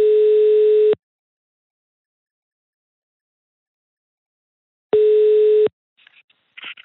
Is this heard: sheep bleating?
no